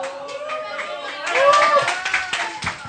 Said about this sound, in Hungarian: Hogy tapsol itt a feleségem?